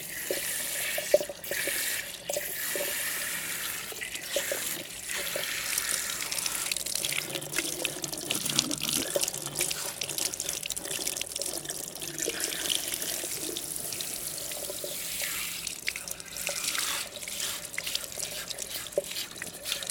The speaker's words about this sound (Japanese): お湯をかけながら頭をわしゃわしゃ。頭皮が刺激されていい感じでしょう。